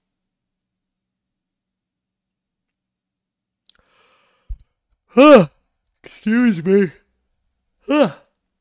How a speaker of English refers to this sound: Yawning.